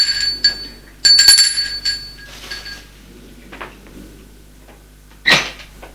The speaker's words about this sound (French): Il n'y a qu'une porte à l'étage et c'est le dernier. Elle sonne furieuse à la porte de l'appartement.